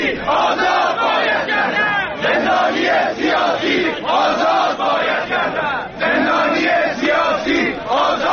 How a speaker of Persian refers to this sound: در همدان آزاده شعار تظاهرکنندگان علیه استبداد بود و فریادهای پیاپی برای آزادی زندانیان سیاسی.